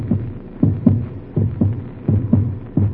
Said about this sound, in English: Doctor, that's my heart beating like a drum in my ears. It's loud, so loud. Can't you hear it?